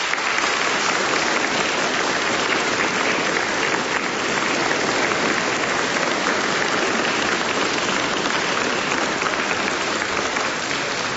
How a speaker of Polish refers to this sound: Więc teraz pozdrówmy tych wszystkich, którzy teraz są razem z nami w sposób duchowy, którzy teraz łączą się z nami na całym świecie. Wielkie oklaski dla tych wszystkich.